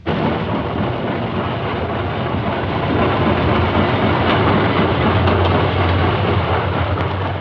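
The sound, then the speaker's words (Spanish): A tram rolls along its rails with a loud, steady rumbling roar and rattle that fills the whole stretch, with no voices over it. “Esa mañana, en vez de que el tranvía Tilín saliera por las calles, se quedó arrinconado en los talleres.”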